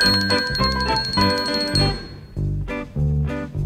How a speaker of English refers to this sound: playing my bells. I've been practicing. Pretty good, huh?